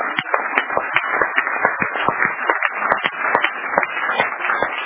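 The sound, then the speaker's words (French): A crowd applauds steadily and loudly, a dense crackle of many hands clapping at once that holds for the whole stretch without letting up, with no voices standing out above it. “Applaudissez dans le lieu.”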